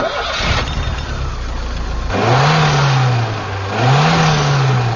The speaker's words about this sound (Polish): Wygląda zupełnie jak cywilny samochód. Pracuje silnik jak w cywilnym samochodzie, a na drodze pokazuje to, co potrafi.